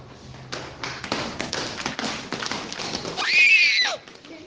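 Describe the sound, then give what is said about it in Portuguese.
A horse's hooves clip-clop in a quick, steady rhythm, then the horse lets out a loud, shrill whinny that trails downward before fading out. “Aí depois veio o príncipe e o seu cavalo.”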